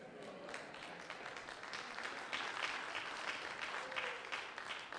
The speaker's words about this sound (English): I got one clap on that.